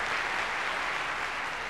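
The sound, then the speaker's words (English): Dense, sustained applause from a large audience in a concert hall as the conductor enters before an orchestra concert, a steady wash of many hands clapping at once, loud, with no pauses and no voices standing out. “The conductor enters to thunderous applause.”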